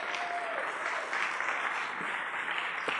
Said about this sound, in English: Come on, let's give God a great hand clap of praise.